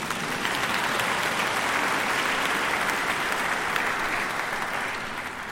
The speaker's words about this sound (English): Yes, you can clap if you want, by the way.